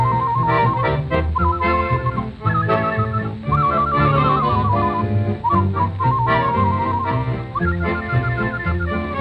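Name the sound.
whistling a tune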